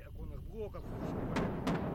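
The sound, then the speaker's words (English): Outgoing artillery fired by Donbas separatists rumbles, with two sharp bursts close together over a steady low roar, following a brief moment of a voice speaking, while a school janitor cleans up glass from shattered windows. “The janitor cleans up the glass from the shattered windows to the sound of outgoing artillery fired by the Donbas separatists.”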